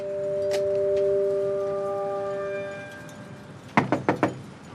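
Three quick, firm knocks on the front door of a middle-class suburban house, knocked from the front porch, evenly spaced near the end, after a soft steady background hum with a faint high tone fading out.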